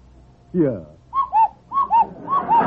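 household object, cuckoo clock calling

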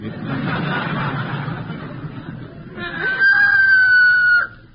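bird, rooster crowing

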